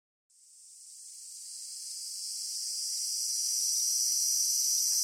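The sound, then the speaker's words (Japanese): A steady, shrill buzzing drone of cicadas on a summer day under a blazing sun starts abruptly and swells gradually louder, filling the air continuously with a bright, hissing texture and no voices. “夏の太陽は容赦なくさんさんと輝き、耳を澄ます間もなくセミたちは夏の BGM を奏でる。”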